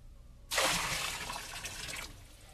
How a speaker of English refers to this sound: Around the altar, you will notice a trench. On the altar is the bullock and pieces of wood. I have had water brought forth in barrels, which shall now be poured over the bullock and the wood.